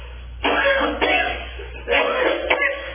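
A person coughs several times in two short bursts of harsh, throaty hacks separated by a brief pause, with no talking.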